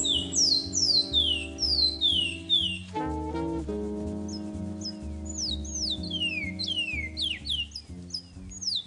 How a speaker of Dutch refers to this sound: Ik denk dat dit een Surinaamse zangvogel is. Daar heb je goed. Weet je nog beter ook welke zangvogel? Ik gok een picolet, maar ik weet het niet 100% zeker.